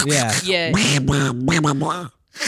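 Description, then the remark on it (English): A person imitates Donald Duck's squawking voice: a rapid, raspy string of loud quacking bursts, a brief silence, then one more squawk starting at the end. “And let's do a Donald. Donald Duck is the hardest one to do.”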